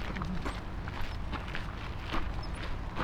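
Several sets of footsteps, people walking with a dog, move along steadily outdoors, a soft irregular shuffle and tap with a low rumble of background noise and no voices.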